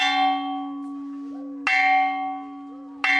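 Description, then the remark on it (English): A school bell at Longameri Primary School is struck three times at a slow, uneven pace as children head home, each clang bright and loud, with a rich metallic ring that hangs and slowly fades before the next strike. “At Longameri Primary School, the bell rings and children head home”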